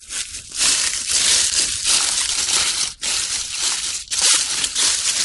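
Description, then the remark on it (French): Continuous crunching and crackling of dry leaves under people's footsteps in the Bois des Hâtes woods at Saint-Avertin, loud, with brief pauses between steps and no voices. “Ou les pas des gens sur les feuilles.”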